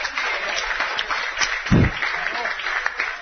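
A live audience applauds steadily for a few seconds, a dense wash of clapping hands at moderate volume, with a brief low thump partway through.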